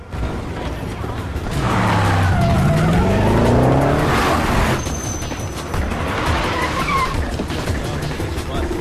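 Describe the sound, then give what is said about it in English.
Cars of Vosin's team race back towards their HQ in a Bourne film scene, engines roaring and tires screeching in long, sliding wails that rise and fall, a loud sustained burst from about two to five seconds, then more squealing and engine noise. “Vosin's team speed back towards their HQ.”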